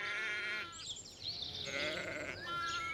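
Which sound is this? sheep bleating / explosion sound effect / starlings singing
sheep bleating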